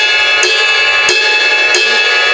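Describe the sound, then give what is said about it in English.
A ride cymbal bell struck three times at a steady, unhurried pace, each hit a bright, piercing ping over a loud, shimmering metallic ring that sustains throughout. “You go up to the bell of the cymbal, which is in the I love top.”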